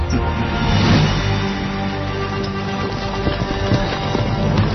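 A dense, continuous rumble of the hooves of two thousand horses galloping through the night, each ridden by a guard with a second rider behind, steady and fairly loud throughout, with no voices present.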